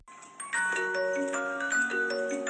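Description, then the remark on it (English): Several clocks sound together in a clock repair workshop in Tucker County, West Virginia: layered, ringing chime tones overlap and sustain, with faint ticking clicks underneath. Steady, with no one speaking. “Traveling 219 reporter Roxy Todd began visiting the pair in the clock workshop shortly after Jessica began working with Doyle.”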